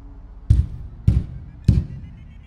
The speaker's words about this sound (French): Un énorme marteau de fer, le plus gros que j'ai jamais vu, y était attaché. Je saisis le heurtoir froid et rouillé et le tapai contre la porte.